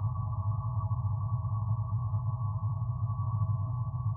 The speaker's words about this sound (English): From somewhere, the hum of a server powering on.